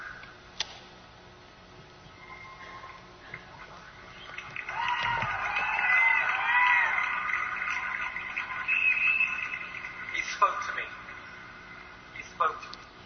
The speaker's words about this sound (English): He spoke to me. They're applauding. God spoke.